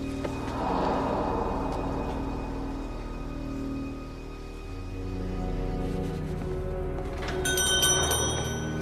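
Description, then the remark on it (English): A small bell rings in a busy, jangling stream of bright metallic tones, with the ringing growing sharper and louder near the end. No one speaks. “Do hope you're not going to break my little bell.”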